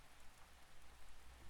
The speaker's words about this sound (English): Listen to that rain just outside the window.